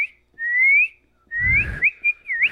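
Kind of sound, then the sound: human body sound, person whistling a tune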